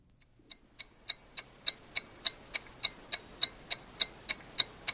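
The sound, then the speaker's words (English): A ticking bomb clock sound effect from a Republican National Committee ad with no narration: sharp, evenly spaced ticks, about three per second, repeating steadily over a faint low background hum, with no voices. “Republican National Committee ad that came out for this season, came out on October 22nd, no narration, only the sound of a ticking bomb, and quotes from Osama bin Laden and al-Zawahiri flashing across the screen behind images of training terrorists.”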